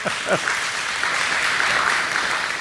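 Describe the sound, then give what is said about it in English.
A crowd applauds in a dense, steady wash of clapping that holds at an even loudness throughout, with a couple of brief voice-like calls at the very start. “I wasn't meaning to get you a round of applause,”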